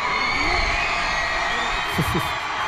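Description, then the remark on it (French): A large crowd of about 370 pupils of the Lycée français Bonaparte in Doha cheering at the Al Sadd club stadium as they welcome the French football team. The cheering is a steady, dense roar, with a couple of brief rising whoops standing out near the end. “Oui, le stade du club d'Al Sadd, pelouse impeccable, et il y avait tout à l'heure donc ce comité d'accueil enthousiaste, beaucoup de ferveur.”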